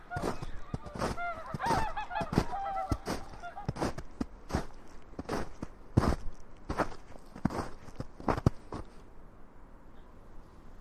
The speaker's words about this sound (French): Il y a souvent des familles de cygnes chanteurs qui arrivent. Donc on voit les deux adultes bien blancs, avec le bec bien jaune. Et puis les petits qui sont un peu plus sales, on dirait.